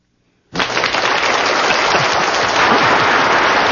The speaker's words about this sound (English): We had something planned, remember? Oh, it's a drum roll.